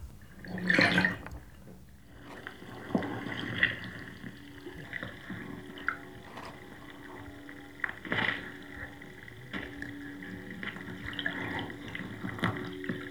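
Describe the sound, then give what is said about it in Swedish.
Underwater seabed sounds recorded by walking around with a hydrophone on the seabed, then played back up out of a bowl of water: muffled water movement with a few louder sloshing, bubbling bursts every few seconds over a steady ringing hum, no voices. “Och sen gick jag runt med min hydrofon på havsbotten. Och detta lät jag sen komma upp ur en vattenskål.”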